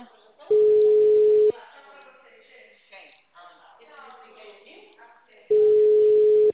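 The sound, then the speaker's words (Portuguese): A telephone busy signal: two loud, steady, mid-pitched tones about a second each, with a recorded voice speaking in the pause between them. “Telefone encontra-se ocupado. Por favor, tente mais tarde.”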